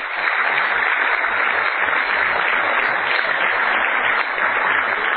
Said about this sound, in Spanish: Denles un fuerte aplauso.